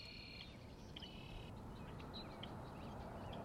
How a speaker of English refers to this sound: Gulls, a huge flock of gulls. Franklin's gulls are classic prairie nesting gulls. They nested way up in Alberta and Saskatchewan, or they will nest up there. They're heading that direction.